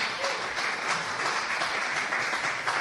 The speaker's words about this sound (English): Clap, yes, of course, he'll take a clap.